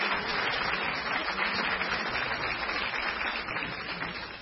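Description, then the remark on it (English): A crowd at a luncheon applauds steadily, a dense wash of clapping from many hands that holds an even level throughout and tapers only slightly at the end. “a round of applause and thanks.”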